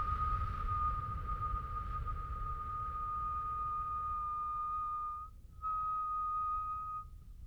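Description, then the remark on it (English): A person whistles a long, steady, single-pitched tone on a slow exhale through the mouth as a breathing exercise, pauses briefly for a breath in through the nose, then resumes the same even whistle. Moderately loud, with no talking. “Now, I kind of whistled there for you because I wanted you to hear the breath.”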